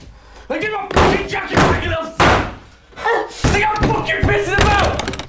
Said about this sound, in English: She stops trying to open the door and slides the lock back in.